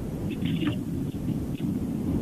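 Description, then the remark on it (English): Steady low rumble of a caller's car in Pennsylvania carried over a phone line into a call-in show, a dull continuous drone with faint higher hiss and a few soft thumps, no voices heard. “I could hear your car. I just couldn't hear you.”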